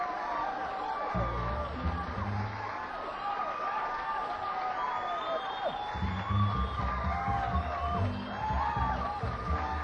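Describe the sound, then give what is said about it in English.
An audience applauds and cheers steadily as Jethro Barnes is introduced, with scattered whoops and whistles rising over the crowd noise and a few deep shouts breaking through near the middle and end. “But I want you to really get behind this man now when we kind of tell you who he is, and give him a nice round of applause.”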